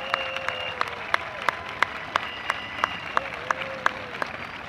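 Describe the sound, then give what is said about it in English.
An audience at a Bangor East Little League evening ceremony applauds the Bangor band steadily for several seconds, a dense wash of clapping with a few sharper, louder claps popping out in a loose rhythm and faint high whistling tones drifting through. “Before we get started, can we get another great round of applause for the historic Bangor band for their outstanding work tonight?”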